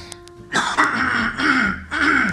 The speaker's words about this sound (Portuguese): Na verdade, eu tentei tapar o microfone com a mão e dei uma tossida. Aí a gente ouve aquela tossida gostosa,